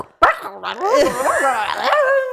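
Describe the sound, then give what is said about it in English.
A voice imitates a big old clangy desk phone with a receiver and a built-in tape machine being dropped: a sharp, loud clack followed by about two seconds of warbling, rising-and-falling vocal clatter and jangling. “No, and actually the best thing was he used to drop his phone almost every week, and it was one of those big old clangy phones, so it'd be like...”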